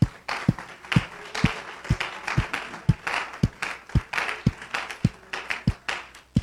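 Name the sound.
audience clapping hands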